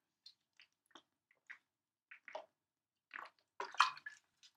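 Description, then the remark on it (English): Wet sounds of someone drinking water because their mouth is getting dry: a string of small sips and swallows at uneven intervals, building to a louder cluster of gulps near the end, with no talking. “I need some water. Hold on a second. My mouth is getting dry.”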